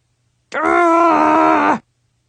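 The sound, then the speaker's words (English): A person gives one loud, sustained growl of a bit over a second, a rough, throaty voice imitating a dog that dips slightly in pitch before cutting off. “OMG, did I just growl like a dog?”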